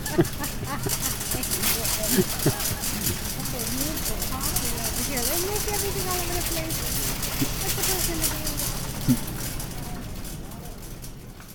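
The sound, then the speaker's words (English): A car engine runs with a steady low drone under constant road-like noise throughout, while a muffled voice hums or talks faintly in the foreground. “I did want you to hear the car and some of the cart noises to see what that did to the limiter.”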